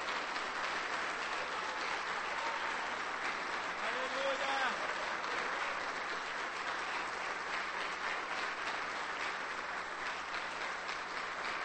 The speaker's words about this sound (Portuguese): Eu quero que você comece a aplaudir Jesus agora, porque o Senhor é fiel.